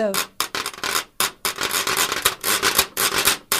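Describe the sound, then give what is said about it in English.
A washboard from 1918 played as percussion: bright, raspy scraping strokes in quick, uneven bursts, some short and clipped, others drawn out into longer rattling runs, fairly loud with no voices. “So that's the washboard.”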